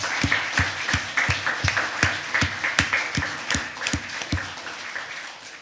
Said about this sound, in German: Lass uns den Leuten einen großen Applaus geben.